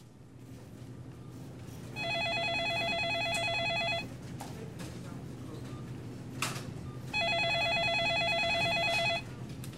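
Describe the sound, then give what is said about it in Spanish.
A telephone ringback tone heard down the line as a call is placed to a grocery store: two long electronic rings, each about two seconds, separated by a pause, steady and moderately loud over a low hum. “Pues llámalo.”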